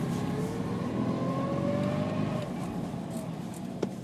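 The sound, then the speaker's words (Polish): A small car engine hums steadily while being driven, its pitch rising as it revs and accelerates, fairly loud throughout with a brief knock near the end. “żeby poprowadzić ten samochód.”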